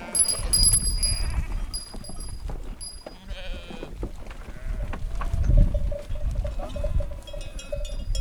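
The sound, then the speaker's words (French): Several ewes bleat from a flock outdoors, their calls overlapping and recurring throughout, over a steady low rumble of background noise. “Et surtout qu'une brebis, quand elles ont vu qu'on voulait les attraper, ben, elles vont se cacher”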